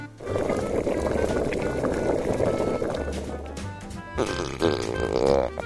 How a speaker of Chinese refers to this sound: 不久锅子里发出咕噜咕噜的声音。